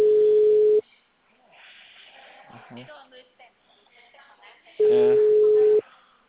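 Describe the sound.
A phone line rings out with two long, steady mid-pitched tones about four seconds apart, and the call goes unanswered while people talk quietly between the rings.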